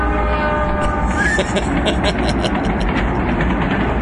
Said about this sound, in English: That sounds like a steam engine.